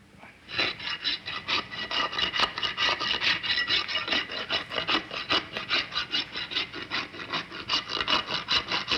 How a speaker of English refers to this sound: W59, take one, filing horse's hoof.